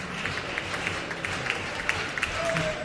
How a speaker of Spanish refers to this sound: Aplaude el Gran Teatro Falla, ¿eh?, a esta última agrupación de esta tercera función, tercera sesión de cuartos de final.